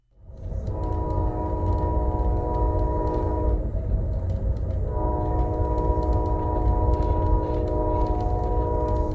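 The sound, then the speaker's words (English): A passenger train rumbles past, its loud, sustained horn blaring in two long blasts over the steady roar of the wheels, with no voices present. “Why fly to Chicago from Miami in 3 hours when you can get there by rail in 40 hours?”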